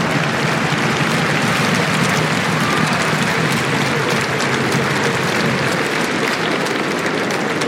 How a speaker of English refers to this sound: Vous pouvez l'applaudir, mesdames et messieurs.